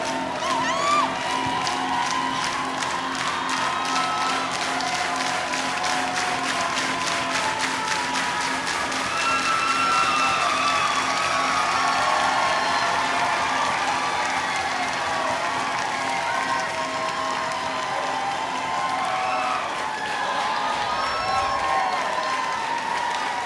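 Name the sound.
concert crowd cheering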